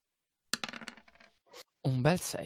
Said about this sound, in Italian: Vabbè, posizioni non ci sono, effetto standard, bonus dice 1 e andiamo. Primo tiro di serata. Patapam.